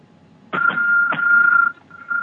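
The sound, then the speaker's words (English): A bright bell rings loudly, struck a few times in quick succession, its clear high tone ringing on steadily before briefly cutting off and sounding again. “That bell can only mean one thing.”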